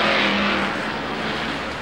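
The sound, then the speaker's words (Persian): A Bedrock bus drives along with a loud, steady engine rumble and broad road noise, continuous for the whole moment, with no voices. “اتوبوس بدراک.”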